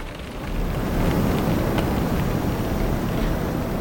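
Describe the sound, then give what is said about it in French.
A steady, dense roar of storm wind heard live from inside a house in the dark, swelling slightly after the first half second and then holding constant, with a hiss like driving rain and no voices. “Et oui, c'est le vent de la tempête à l'intérieur de la maison.”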